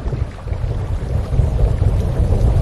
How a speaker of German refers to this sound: Och nö, ne? Das brauchen wir jetzt aber gar nicht. Diesen blöden Regen. Bäh, Regen. De la pluie.